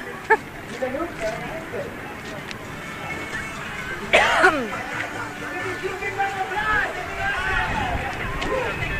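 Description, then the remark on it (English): Steady crowd chatter at an outdoor skating rink: many overlapping voices blend into a continuous murmur, with a brief louder burst of noise about midway through. “Good crowd on the rink. Very good crowd on the rink.”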